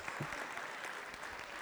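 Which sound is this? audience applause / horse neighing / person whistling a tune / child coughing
audience applause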